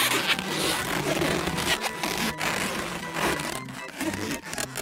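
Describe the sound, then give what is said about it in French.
Monsieur Banane twisting balloons into animal shapes, a steady stream of squeaky, rubbery scraping and rubbing with a few brief pauses and sharper squeaks, with no talking. “Monsieur Banane peut faire des animaux en ballon.”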